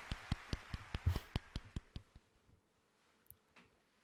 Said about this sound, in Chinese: 好了，下一个，还有脸鼓掌呢！